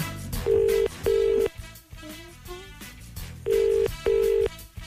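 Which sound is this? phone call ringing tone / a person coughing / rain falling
phone call ringing tone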